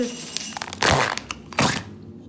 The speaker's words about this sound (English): I've taken the slime bucket away from her multiple times during the podcast, and she's taken it away or taken it back and... That's what all this noise is. And when you put the slime back in the box.